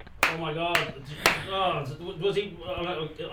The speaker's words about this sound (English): So it wasn't... I didn't mean to do a slow clap. I was genuinely enthused.